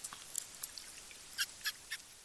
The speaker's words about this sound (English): Over several years, Melo Santos has recorded the sounds of Araguayan river dolphins that came calling at the Mocajuba fish market. That's on Brazil's Tocantins River.